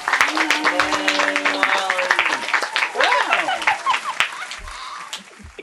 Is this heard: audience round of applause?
yes